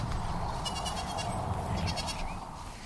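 A goat bleats in a wavering, quavering cry lasting a couple of seconds, with a second shorter bleat after it, over a steady low rumbling background. The goat sound serves as the sign for Anglia Farm Shop.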